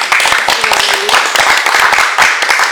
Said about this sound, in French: Et puis on peut applaudir Jean-Paul.